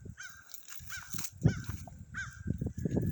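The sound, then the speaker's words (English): A bird perched on the highest branch of a tree calls repeatedly, about five harsh, cawing cries in an uneven rhythm, over a low rumbling outdoor background. “I actually believe that bird is following.”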